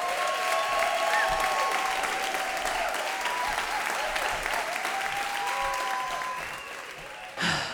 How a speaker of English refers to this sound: All right, it is my pleasure to bring up the last storyteller of this first half. Please make a huge round of applause